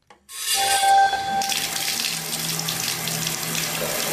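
Water runs steadily from a tap in a sustained hiss, with soft rubbing and splashing as hands are washed under the stream. No one speaks.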